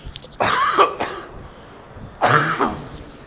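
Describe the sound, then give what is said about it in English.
Two loud bursts of coughing with a short pause between them, each a rough, throaty hack that trails off, with no talking in between. “I'm going to cough.”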